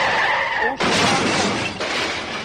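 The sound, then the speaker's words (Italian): A loud tire screech, then an abrupt violent crash with glass shattering and debris clattering for a couple of seconds, a staged car-crash special effect made with in-house equipment to simulate a road accident, with no voices. “Sono effetti speciali, e lo dico per coloro che prendessero paura, ma noi siamo dotati qui in casa di una serie di attrezzi per simulare la vita, ciò che non deve accadere sulla strada e sull'asfalto”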